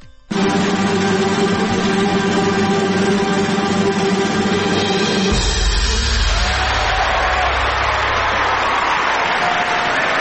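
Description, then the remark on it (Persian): A loud, continuous wash of crowd noise for the radio show Lig-e Radioyi (Radio League): clapping, cheering and high screams blending into a dense roar that persists throughout, with a deeper rumble joining partway through. “این دست جیغ هورا مال ریگ لیگ رادیویی بود”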